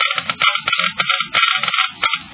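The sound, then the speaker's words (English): Rapid, irregular clicking from Geiger counters measuring engine wear with motor oil, crackling in dense bursts with brief gaps, fairly loud, with no voices. “You have just heard Geiger counters clicking off the scientific proof that new RPM motor oil is years ahead.”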